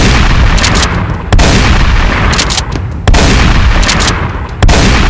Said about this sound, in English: I inch closer, when from behind I hear the all-too-familiar sound. I break into a full sprint as shots chase me through the showroom.